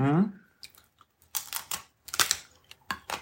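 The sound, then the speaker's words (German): Crisp crunching from someone chewing edible wafer paper, a few irregular dry bursts following a short hummed voice at the start. “Fühlt sich auch an, als würde man auf Pappe rumkauen, schmeckt aber besser als Pappe.”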